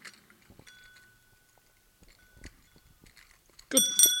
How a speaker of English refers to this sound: Good Lord, that's harder to do than it should be. It's a child's bicycle bell. Good luck if you're the child riding that bicycle, trying to activate that in time.